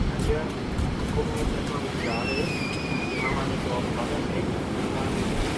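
A steady, loud roar of surf and gusting wind on a beach with a promenade and surf schools, continuous throughout, with a brief high gliding whistle-like call rising faintly above the noise midway.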